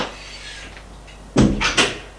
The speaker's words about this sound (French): La porte est ouverte.